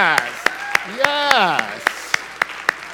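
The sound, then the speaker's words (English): Steady, evenly spaced claps ring out at a brisk rhythm, about ten sharp hits in a row, as a church audience applauds during a Sunday morning service, while a voice speaks over them in the middle. “So isn't it great that, let's applaud our streaming audience, okay?”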